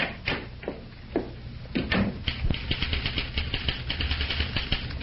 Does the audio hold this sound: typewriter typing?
yes